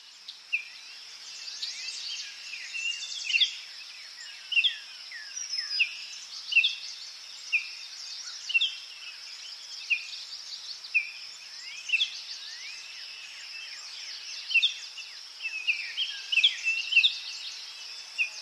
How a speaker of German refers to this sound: Andere Geräusche, die das auch können, ist zum Beispiel Meeresrauschen. Vogelgezwitscher.